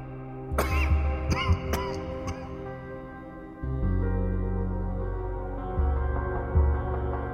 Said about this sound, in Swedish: Skrattet följdes av en hostattack.